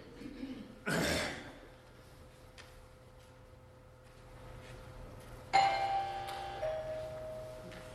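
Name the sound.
bell ringing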